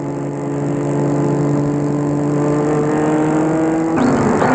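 A car engine hums steadily as the vehicle drives slowly up to a château at the end of the day, its pitch shifting slightly, then the sound changes near the end as it pulls in and parks a little away from the entrance.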